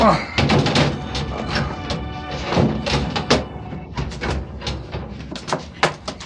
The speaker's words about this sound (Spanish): Los golpes del fuerte puño de Calimán caen repetidas veces contra la puerta acerada que acaba de cerrarse frente a él. Es una trampa de acero inexpugnable.